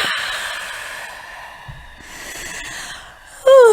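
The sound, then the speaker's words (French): A long, airy exhale fades slowly, then a loud yawn with a brief voiced moan breaks out at the very end, during a stretching and breathing exercise. “C'est le bâillement qui vient tout de suite.”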